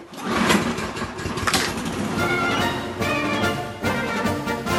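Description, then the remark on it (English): A lawn mower engine runs steadily, a loud, rattling mid-pitched drone with a fast pulsing chug that holds throughout, shifting tone slightly partway through. No one speaks. “Things may have changed by the time you hear it, but I'll still be mowing my way through my NPR Politics podcast playlist.”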